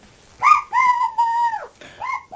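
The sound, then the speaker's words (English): A voice imitates a cockerel crowing as part of a pretend game: a short rising note, then a long sustained high call that drops away at the end, followed by a brief extra cry. “when we pretend you were asleep and you heard the cockerel and you thought your teddy bear was lost.”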